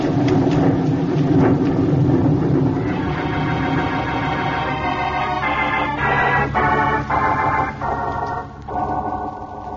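A loud thunderstorm in the jungle: heavy rain roars steadily with deep rumbling thunder, then a howling, tonal layer rises over the downpour for the rest of the stretch. No one speaks.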